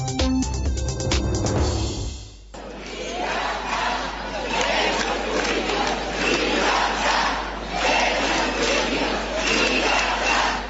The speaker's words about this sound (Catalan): Ja ho senten, jornada de manifestacions multitudinàries d'estudiants avui arreu del país contra la sentència del procés.